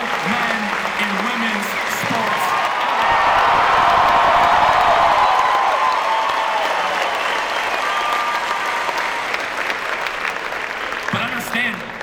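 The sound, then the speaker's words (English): A large crowd bursts into loud, sustained applause with cheering as Kirk shouts about gender on stage, the roar swelling to a peak a few seconds in and staying dense for the rest of the stretch. “And it was here, when Kirk started shouting about gender, that the applause became anything but tepid. It was deafening.”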